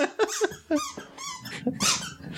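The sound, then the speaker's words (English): A squeaky spider dog toy being squeezed over and over, producing a quick, uneven string of high, wheezy squeaks, with no talking. “Squeaky springs.”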